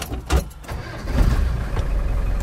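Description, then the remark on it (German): An off-road vehicle engine cranks after a brief click, then catches and settles into a steady, low rumbling idle, in the Rhön region of northern Bavaria, Germany; no voices are heard. “Unterwegs in der Rhön, zum Tatort im Geländewagen.”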